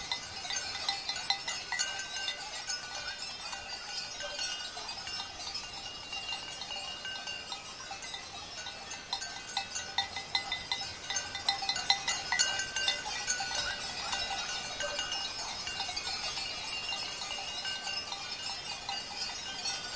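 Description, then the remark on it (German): A flock of sheep being herded bleats steadily while many small bells clink and jangle throughout, a busy, continuous pastoral bustle with no one talking. “Die Schafe hütende Schwester wird auf dem Bild fehlen.”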